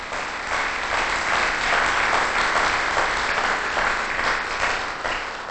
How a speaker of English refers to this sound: Give that guy a round of applause. He knows who he is.